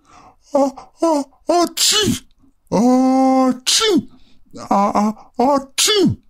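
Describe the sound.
A performer's voice imitates a jaguar sneezing: a rapid series of loud, breathy vocal bursts, with one longer drawn-out wheeze in the middle before more quick sneezes follow.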